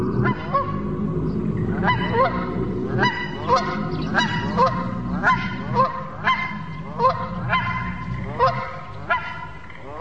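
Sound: canada geese honking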